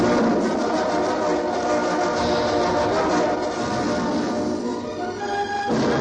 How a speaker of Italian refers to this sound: Per favore, ci mandi la sigla, in qualche modo. Oh, ecco.